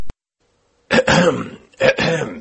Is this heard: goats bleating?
no